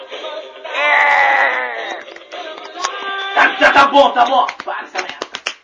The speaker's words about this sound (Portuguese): pra gente ver o grito dele. Tira o áudio, deixa que a gente vê ele, dá um soco.